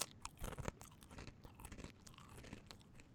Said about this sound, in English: This is what eating a Cheez-It sounds like.